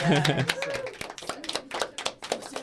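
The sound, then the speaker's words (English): A short burst of applause from a few people: sharp, irregular claps in a loose rhythm, with a brief voice sounding at the start. “You can clap. I think you should.”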